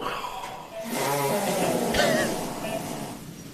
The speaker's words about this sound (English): It is indeed a fart. Oh. Fart.